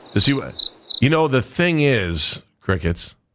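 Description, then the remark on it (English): Steady, high-pitched cricket chirping pulses during the first second, then fades under loud voices talking over it. “The one thing is, crickets, we've been doing this too long, haven't we?”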